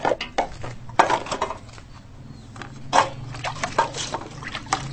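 Metal pots and spoons clatter and clink in irregular bursts while water sloshes and trickles between them, with a low steady hum underneath and no one speaking.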